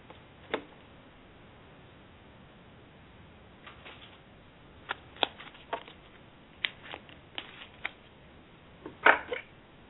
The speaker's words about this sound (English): I'm shuffling the cards for you right now.